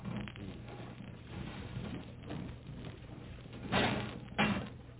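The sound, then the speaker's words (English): A heavy submarine door slides open at the bottom of the ocean over a steady low hum, with a continuous wash of rushing, churning water pouring in and two louder surging bursts near the end; no one speaks. “When you open that door, a lot of water will come in.”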